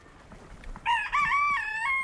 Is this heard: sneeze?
no